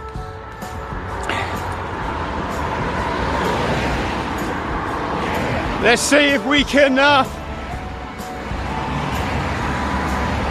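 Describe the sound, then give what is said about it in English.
Steady roadside traffic rumble of passing cars fills the background, continuous and fairly loud, while a man talks over it. “get some reactions from the car drivers. They normally beep at you anyway for some reason. It's a bit noisy.”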